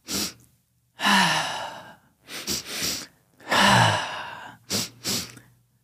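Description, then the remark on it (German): Two people breathing together: two quick, sniffing nasal inhales followed by a long, breathy sighing exhale, repeated in a steady cycle; fairly loud, with no talking. “Wir atmen doppelt durch die Nase ein und dann mit einem Seufzer aus.”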